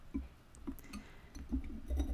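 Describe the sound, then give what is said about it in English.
A glass of burdock root tonic, a health drink, being poured, quiet, with a few light clinks and soft liquid sounds spread across a couple of seconds and no one talking. “Yeah, y'all hear it. Y'all hear it pouring myself.”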